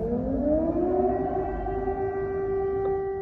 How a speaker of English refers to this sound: Every 2 or 3 hours, there are being sirens, and we have to run to the bunkers.